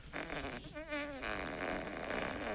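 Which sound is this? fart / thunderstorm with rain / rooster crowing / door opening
fart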